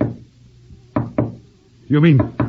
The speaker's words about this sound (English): those knocks you heard were a spirit rapping device